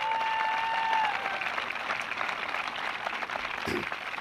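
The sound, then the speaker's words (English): A crowd applauds steadily, a dense wash of clapping from many hands that holds for several seconds at moderate loudness, with a brief whistle early on and no speech. “That really deserve a round of applause.”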